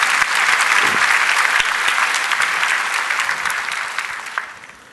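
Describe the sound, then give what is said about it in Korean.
A church audience at a morning service claps together in sustained, dense applause to encourage the choir, staying strong before gradually tapering off toward the end. “우리 오늘 수고해 주신 찬양대 한번 박수로 격려하십시다.”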